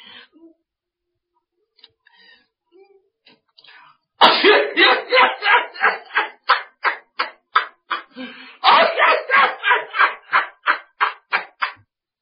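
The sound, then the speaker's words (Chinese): A voice imitates two people hiding under a bed, coughing from the smoke of burning mugwort and chili peppers. They cough in a long, rapid fit of dozens of sharp, loud coughs in quick succession, pausing briefly before another burst, following a few faint earlier sounds. “俩人在床底下绷不住劲了，就咳嗽起来了。”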